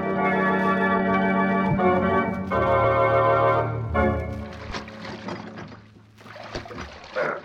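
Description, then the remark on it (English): Oars dip and splash through water as a boat is rowed, in a steady, roughly once-a-second rhythm, coming through clearly after a stretch of loud sustained music fades back. “Just keep rowing and let me manage this.”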